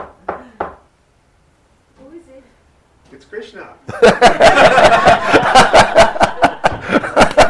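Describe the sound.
A few soft voice sounds, then a loud, rapid run of knocks, as on a door, rapping steadily for several seconds while laughter and chatter carry on underneath.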